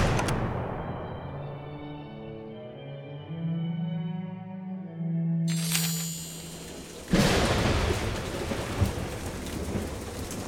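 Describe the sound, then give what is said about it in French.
Deep thunder rolls and growls for several seconds, then a loud rush of heavy rain and storm noise swells up and carries on steadily. No one speaks. “Le tonnerre grondait, même la grêle était de la partie.”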